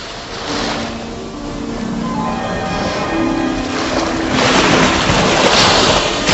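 A rough sea roars steadily in a dense wash of noise during a storm on a dark night, with wind and surf building into a louder surge of waves crashing on the shore toward the end.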